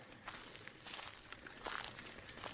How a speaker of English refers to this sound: Footsteps, slow and careful ones. I turned and looked, not seeing much in the dark. As I gazed around though, the footsteps stopped, telling me that while I may not see them, they can see me.